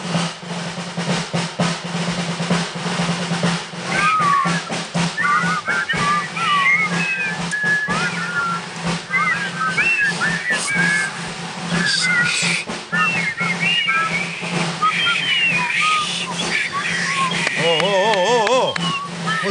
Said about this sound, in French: il essaye de faire siffler toute une bande de joyeux soldats sur l'air très connu du pont de la rivière